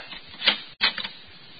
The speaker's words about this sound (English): Now, where's that paper? In the hall here someplace. Oh, the door done closed. It's locked.